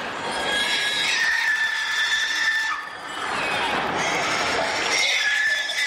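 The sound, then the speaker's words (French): Pigs squeal loudly and almost without pause while being gassed, shrill overlapping screams that dip briefly midway and then surge again, set against a harsh, noisy background. “Et l'association avait aussi voulu vous montrer comment les cochons sont gazés.”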